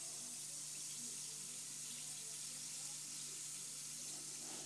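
A steady, bright hiss of a bath bomb about 2 inches in diameter fizzing in water, like a spilled soda crackling with countless tiny bubbles, continuous and even throughout with no pauses and no voices.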